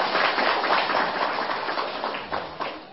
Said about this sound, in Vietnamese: Như vậy thì quý vị Phật tử cho một tràng pháo tay.